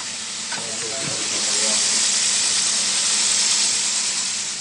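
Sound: kitchen tap running water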